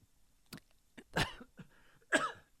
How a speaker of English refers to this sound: Notice I'm coughing now.